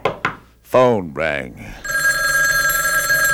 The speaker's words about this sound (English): It was at this point the phone rang.